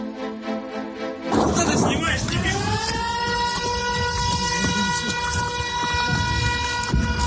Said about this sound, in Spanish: La verdad que este sonido, el que suenen las alarmas antiaéreas allí en Ucrania, pues ya no es noticia después de un año. Pero hoy sí, porque ha ocurrido justo en plena cumbre de la Unión Europea allá en Kiev.